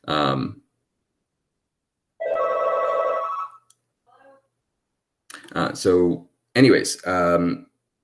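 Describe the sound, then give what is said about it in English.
A single electronic office phone, belonging to someone else, rings for about a second and a half, clear, with a faint trailing chirp after it. Voices speak briefly before and after the ring. “His phone is ringing, and I'm using the office, and it's not my phone.”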